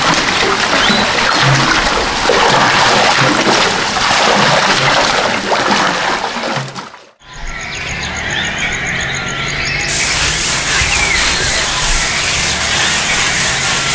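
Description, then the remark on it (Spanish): Water sloshes and splashes steadily as people bail all the water out of a pool, broken by a brief silence midway before the churning resumes with a brighter, hissier spray. “Vamos a sacar todo el agua de la poza hasta encontrarla.”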